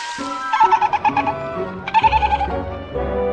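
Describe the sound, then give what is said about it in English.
A baby dolphin caught in a fishing net calls in two bursts of quick, high-pitched chattering squeaks, each a run of about six rapid pulses, set over a steady humming musical backdrop. “Listen, it's a baby dolphin.”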